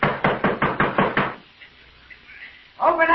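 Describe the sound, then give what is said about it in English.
A rapid, heavy pounding on a wooden door, about eight loud blows in quick rhythm, then a brief hush before a man's voice starts up at the very end. “Open up this door.”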